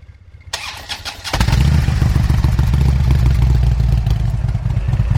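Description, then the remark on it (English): A Harley motorcycle engine cranks with a brief clatter, then fires up and settles into a loud, steady idle in the woods, a deep throbbing rumble with a regular pulsing beat and no voices. “To me, that's not an obnoxious level of sound at an idle.”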